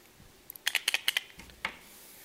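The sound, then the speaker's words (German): A pen scratches across paper, drawing circles in a quick run of about eight short, crisp strokes, fairly quiet, with no talking. “Ja, der Stift ist jetzt nicht mehr so.”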